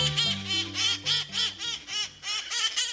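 A rowdy flock of red and green cherry-headed conures squawks nonstop in San Francisco, harsh raspy calls overlapping in quick succession, loud, with no voices present.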